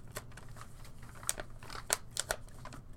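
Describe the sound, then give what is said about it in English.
Paper being folded and creased: a string of short, crisp crackles and scrapes at an uneven pace, a few sharper snaps standing out, with no talking. “Oh, let's fold a piece of paper. Fucking fold a piece of paper.”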